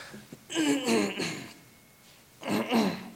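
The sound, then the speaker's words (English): A man clears his throat and coughs in two rough, voiced bursts separated by a brief pause, fairly loud, with no talking. “I didn't have one of Bobby's cough drops today, I'm sorry.”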